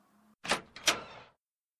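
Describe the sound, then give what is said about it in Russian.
A neighbouring door is opened in two quick scraping, rushing movements, the second longer and trailing off, with no voices. “Соседняя дверь вроде открыта.”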